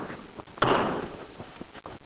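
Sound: door being shut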